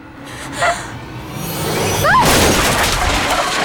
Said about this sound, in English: The bag falls, and she just manages to pull herself out of the way before it smashes into the table she's been working on.